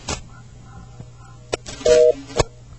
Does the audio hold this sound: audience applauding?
no